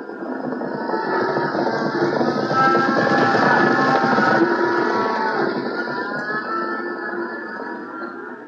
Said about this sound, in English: What's the matter, Father? See, all the cattle are running. Yes. They're on a stampede. I sure hope they don't come our way.